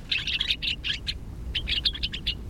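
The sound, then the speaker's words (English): A gray-crowned rosy finch gives quick bursts of buzzy, high chirps in two clusters separated by a short pause, over a steady low rumble of wind. “The gray-crowned rosy finch nests in rocky crags at higher altitudes than almost any other North American bird.”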